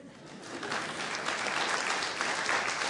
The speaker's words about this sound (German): Du kriegst einen extra Applaus.